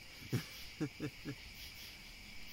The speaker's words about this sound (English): Or, hey, look at this cricket, buddy. A little red cricket. Cool.